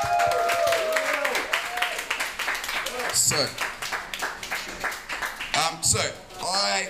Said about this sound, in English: All right, so can you please give a round of applause?